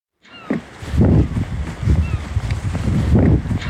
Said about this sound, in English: It's a windy Tuesday down at the dock in Kodiak